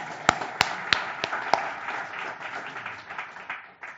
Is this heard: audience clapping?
yes